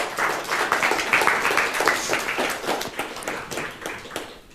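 Steady applause from an audience, a dense patter of many hands clapping at a fairly even level for several seconds before beginning to thin slightly at the end.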